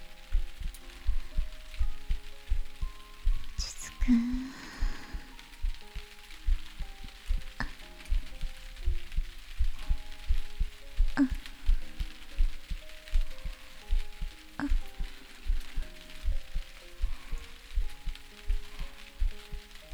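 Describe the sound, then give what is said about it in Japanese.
A steady, muffled heartbeat, heard from a person's chest, thumps in a continuous low rhythm, soft, with faint sustained tones and a light hiss in the background and no one talking. “そうか、心臓の音を聞こえるか。”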